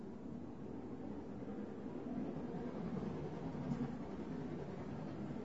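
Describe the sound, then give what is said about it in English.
A steady, rumbling wash of mechanical noise from a steam train going past, holding an even level throughout with no voices present. “There's a steam train going past.”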